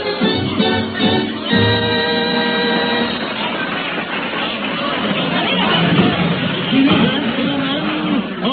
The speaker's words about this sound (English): Convention, we've done a great deal of wild shouting, not a little applauding.